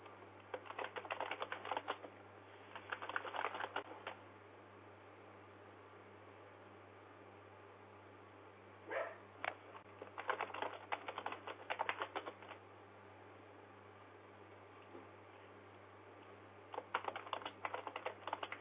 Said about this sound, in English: Oh, now I hear me typing.